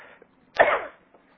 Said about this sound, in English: you'll have to excuse my cough today, I had a virus this week or something.